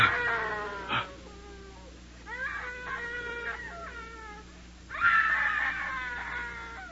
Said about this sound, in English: It's her, Dad. It's the screaming woman.